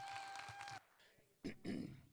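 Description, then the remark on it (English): Applause with a sustained tone fades out, then after a short pause someone at a church gathering coughs twice in quick succession, both coughs fairly loud and throaty. “When I cough, I have not had COVID.”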